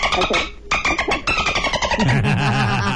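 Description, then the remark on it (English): Dolphin calls: a loud, busy stream of high squeaky whistles and chirps mixed with rapid clicks, sliding up and down in pitch, with a wavering lower warble toward the end. “That's just to remind you how good dolphins are.”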